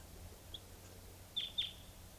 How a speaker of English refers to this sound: And I thought I heard a wild type 2 bird coming in. Set. And there is a wild bird here.